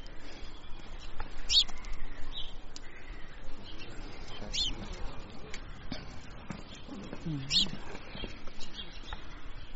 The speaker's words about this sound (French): Donc là, il y a un moineau, le tic tic. Là, c'est des moineaux domestiques. Alors, c'est une espèce très grégaire qui vit en groupe.